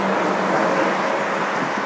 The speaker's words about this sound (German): Und da fährt ein Ferrari vorbei. Ein F40 war das, glaube ich.